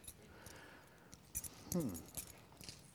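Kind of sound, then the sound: household object, bunch of keys jangling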